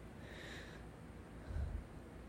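Soft breathing with a breathy exhale near the start and a low puff of air against the mic a moment later; quiet and intimate, with no talking.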